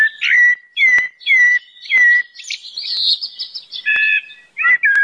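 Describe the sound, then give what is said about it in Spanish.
A blackbird sings a series of short, fluty whistled phrases, repeating a similar note pattern about once a second before a longer warbling run, clear with no other sounds. “Es un pájaro con un canto tan bonito que merece otro nombre.”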